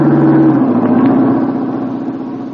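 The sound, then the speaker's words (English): A car's engine hums loudly as it drives along a road, its pitch dropping slightly as it passes, then the steady drone gradually fades as the vehicle moves away. No one speaks. “Duck, here comes the car.”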